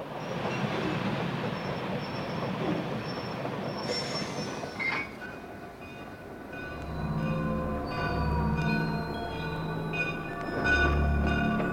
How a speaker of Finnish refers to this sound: näitkö tuo juna, joka tuli meitä vastaan? Mitä siitä? Se oli aivan tupaten täynnä surkean näköisiä ihmisiä. Orjia. Niitä kuljetetaan Chicagoon.